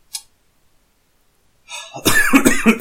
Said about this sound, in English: Me coughing my guts up.